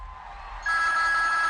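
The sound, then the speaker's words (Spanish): A telephone starts ringing abruptly, a bright, steady electronic ring with a sustained high tone, loud and alone with no voices. “¿Que tenemos una llamada?”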